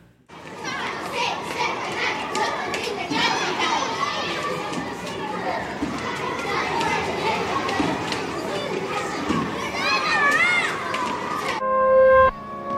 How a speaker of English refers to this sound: On 4th Street, the orphan children play on the jungle gym.